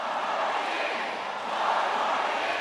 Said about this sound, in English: The crowds there chant his name, while the crowds at Obama rallies chant the same rallying cry as every incumbent who has ever run for re-election.